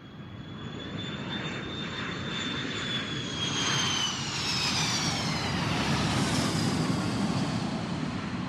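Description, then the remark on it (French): A steady, dense airplane engine drone heard from inside the cabin of an airplane 15,000 feet above Massachusetts, a broad low roar with a faint high whine running over it, constant and unbroken throughout with no voices. “Nous sommes dans un avion”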